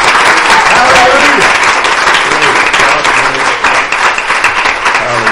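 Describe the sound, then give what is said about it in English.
An audience claps hands in praise of God on Father's Day, a dense, loud, continuous wash of applause lasting several seconds, with voices faintly mixed in beneath the clapping. “And a hand clap of praise for the Father of all.”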